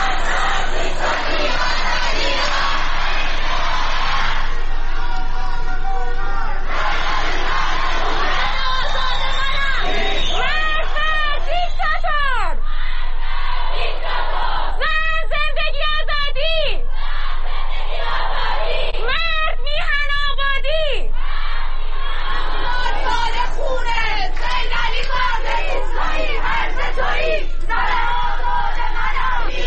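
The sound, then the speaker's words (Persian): A large crowd of protesters at a protest gathering in Sanandaj, Iran, where protesters were blocking streets, chants and shouts continuously, with loud rising cries and whoops breaking out over a dense, steady roar of voices throughout. “بنابر گزارش ها در سنندج تجمع اعتراضی شکل گرفته و معترضان در چندین نقطه از شهر نیز اقدام به بستن خیابان ها کردند.”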